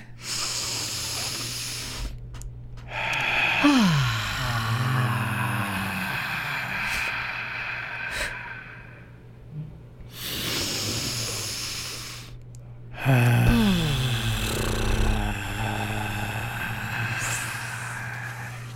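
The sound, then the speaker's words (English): Two loud, forceful breaths pushed out hard during a breathing exercise, about ten seconds apart, each a noisy rushing burst that trails off, over a steady low hum with quieter breathing in between. “And as we exhale, we're going to imagine letting go all the negativity that builds up in our systems, and we're going to get rid of it and just blow it all away out into the universe towards the sun to be all burned up.”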